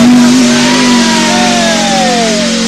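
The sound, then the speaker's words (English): A rally car engine revs loudly and continuously, its droning, harmonic roar holding steady and then sliding in pitch as the revs shift, with no voices. “Roar, pop, bang!”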